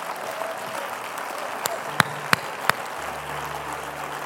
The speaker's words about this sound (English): Why don't y'all clap your hands again?